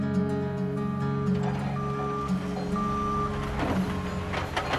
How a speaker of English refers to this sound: A backhoe ripped up his backyard, turning up red dirt.